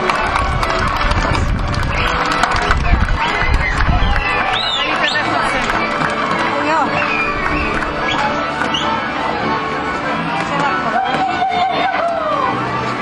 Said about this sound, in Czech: Potlesk pro Kunovian.